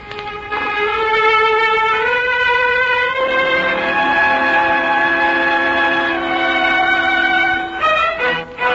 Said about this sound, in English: Train's about ready to pull out